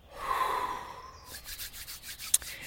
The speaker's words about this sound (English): Jerry took a breath and rubbed his hands together.